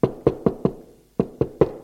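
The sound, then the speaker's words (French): Seven firm knocks on a wooden door, fairly loud: a quick run of four, a brief pause, then three more. There are no voices. “Assis sur une chaise au milieu de la pièce, l'on frappe à la porte.”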